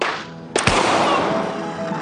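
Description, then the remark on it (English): Two sharp, loud gunshots pop out in quick succession, followed by a lingering noisy wash of echo; no one speaks. “And when Bobby turns, I heard the pops.”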